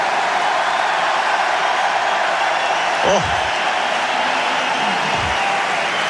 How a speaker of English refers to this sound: That's just about the loudest cheer of the fortnight. And it's just some encouragement for Tsitsipas to hold on to his serve. He raised his arm aloft and he said to the crowd, come on, give me a little bit of encouragement, get behind me here.